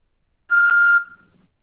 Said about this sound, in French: Veuillez me laisser un message après le bip sonore. Merci.